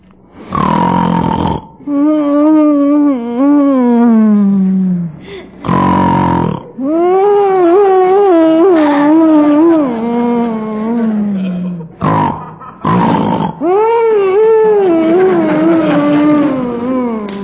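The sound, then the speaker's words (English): A man, John Bickerson of The Bickersons, snores and snorts in his sleep: harsh, noisy snorts break up long whining, grunting groans that waver up and down in pitch, loud throughout with no words spoken. “Whining and giggling and grunting and snorting is driving me crazy.”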